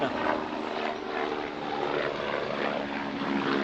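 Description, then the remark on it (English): A helicopter by a helicopter airport drones, its engine roar and steady whining hum holding loud and constant throughout with no voices. “And so, oh, I live next to an helicopter airport.”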